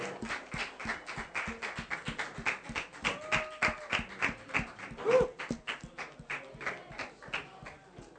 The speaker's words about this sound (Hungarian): És hát szeretnénk még egyszer megünnepelni benneteket, apukák. Egy nagy tapsot adjunk nekik.